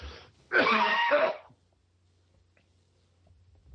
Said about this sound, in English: Let me clear my throat just a moment.